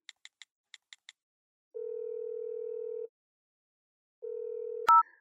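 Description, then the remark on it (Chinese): Six quick keypad beeps from a mobile phone dialing a female classmate, followed by two long, steady ringback tones separated by a pause, then a sharp click as the call connects. “哎，把你手机给我，给你的女同学打个电话。”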